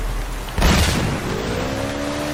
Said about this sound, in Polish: Słuchajcie, jak ja przeżyłem taki wybuch.